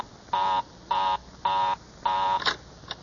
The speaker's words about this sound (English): Well, of all the luck, Mary's line is always busy.